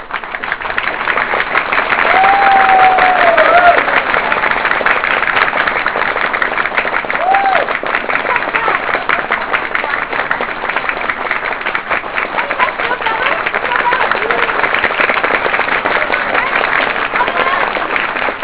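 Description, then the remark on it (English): An audience applauds in a dense, steady wash of clapping that holds at a fairly even loudness throughout, with a couple of brief high whistles rising out of it early on. “Okay, let's see how you applaud, okay?”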